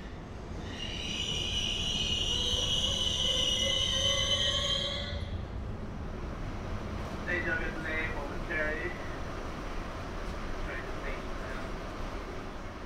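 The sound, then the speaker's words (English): A loud metallic wheel squeal over a rumbling New York City subway car of the Metropolitan Transit Authority fades after a few seconds, followed by a muffled, tinny, garbled voice on the train's public-address system speaking in short bursts over the steady train noise. “That garbled voice coming over a train's PA system has become an all too common sound for New York City strap hangers over the past months.”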